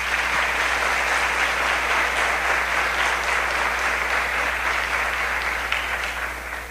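Sustained applause from a parish audience thanking those who worked for the parish festival, a dense steady clatter of many hands clapping at a loud, even level for several seconds before tapering slightly at the end, with no talking over it.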